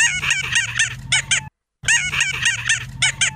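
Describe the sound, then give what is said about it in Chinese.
Rapid bursts of shrill, chirping groundhog calls, high and harmonic, fill two loud stretches split by a brief silence, with a faint low hum underneath and no talking. “于是佢立即发出土拨鼠特有嘅叫声。”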